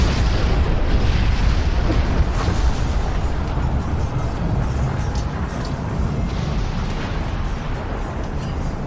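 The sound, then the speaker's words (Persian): A loud, sustained roar of cannon fire and explosion, heavy low rumbling and crackling debris that fills the whole stretch without pause, overwhelming, with no voices; Venetians fire a cannon at the Ottomans, and the ball strikes the Parthenon on the Acropolis, where gunpowder was stored, and the Parthenon explodes. “عثمانی‌ها در داخل پارتنون باروت انبار کرده بودند و وقتی که ونیزی ها توپی رو به سمت عثمانی ها شلیک کردن، گلوله توپ به پارتنون اصابت کرد و پارتنون منفجر شد.”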